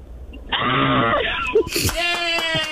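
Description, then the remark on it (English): A woman in her car lets out a sustained, high-pitched theatrical scary scream, loud, then breaks into laughter partway through. “He's just saying scary scream.”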